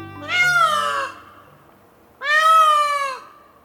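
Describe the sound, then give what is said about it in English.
Two loud, wailing peacock calls, each about a second long and sliding downward in pitch, separated by a brief pause. They ring out clearly with nothing else in the background. “A peacock's tail is magnificent.”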